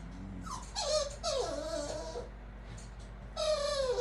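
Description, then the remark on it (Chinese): A dog whimpers in three short bursts of high, wavering whines with brief pauses between them, over a steady low background hum and no talking. “我们家狗狗好像饿了，你知不知道，他们都是吃什么长大的？”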